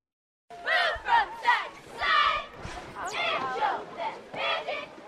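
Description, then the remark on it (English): A high school football crowd in Herkimer, a small town of about 8,000 in New York, cheers for the Magicians team, chanting in loud, rhythmic bursts, many voices shouting together in a steady cadence with brief swells between calls. “On most weekends for nearly a century, cheers like these have been heard in Herkimer, a small town of about 8,000, where the high school football team has been a source of pride for the community.”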